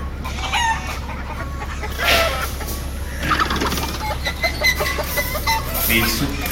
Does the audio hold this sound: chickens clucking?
yes